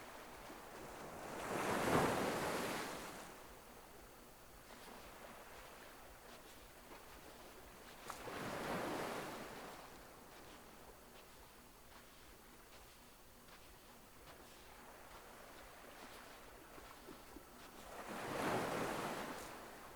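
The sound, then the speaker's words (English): Ocean waves break on a beach, three distinct swells rising and crashing at roughly regular intervals over a steady background of wash and light wind, with no voices. “You decide to walk further down the beach.”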